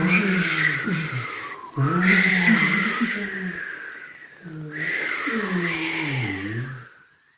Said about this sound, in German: Auf einmal hören sie ein mächtiges Rauschen. Es ist, als ob ein Sturm vom Himmel braust.